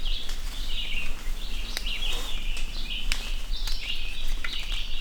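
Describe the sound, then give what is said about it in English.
Dawn birdsong in dense, dripping-wet woods just after sunrise at a bird survey site on the west shore of Moosehead Lake: several birds chirp and trill in overlapping bursts over steady rain and scattered sharp drips, with no voices. “It was raining, it was just after sunrise, and the dense woods were dripping wet.”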